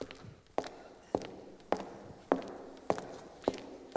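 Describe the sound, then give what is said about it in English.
Steady footsteps walking through a parking lot, about eight sharp, evenly spaced strides at a relaxed pace on a hard surface, each with a crisp scuffing attack over faint background hiss. “Walking through the parking lot.”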